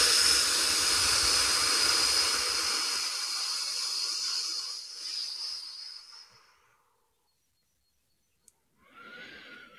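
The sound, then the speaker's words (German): A long, forceful breath blown out through the mouth during a guided breathing exercise, loud and rushing like a hiss, fading over several seconds into silence before another strong exhale begins. “einen wütenden Schmetterling, der Drachenflügel bekommt und anfängt beim Ausatmen eine riesengroße Feuer, wie heißt denn das, Flamme nach draußen zu pusten.”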